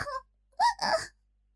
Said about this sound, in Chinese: 急促地喘息着，诱人的呻吟声在山林中飘荡